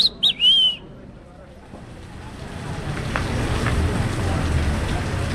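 rain falling

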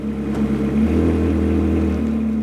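car engine revving

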